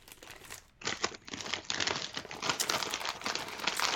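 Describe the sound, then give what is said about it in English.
A crinkly bag of kettle chips, made to a recipe from 1905, rustles and crackles in dense, irregular bursts that start after a brief quiet moment and keep going steadily, fairly loud with no voices. “Well, these kettle chips are made in 1905.”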